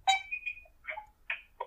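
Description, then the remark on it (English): Muffled, tinny sounds from an accidentally butt-dialed phone call: four short warbling bursts with gaps of near silence between them, with no clear words coming through. “I think he butt-dialed you.”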